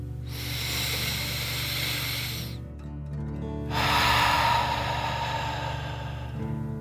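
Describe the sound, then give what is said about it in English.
Two long, airy breaths in a breathing exercise: a slow inhale through the nose followed after a short pause by a louder, forceful exhale through the mouth, over a faint low background hum. “Breathe in through your nose and then out through your mouth, pretending you are breathing fire.”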